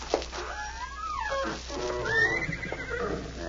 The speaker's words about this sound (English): Where's the horse now? In the next stall. Mind if I look at her?